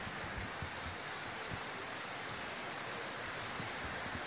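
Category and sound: nature, rain falling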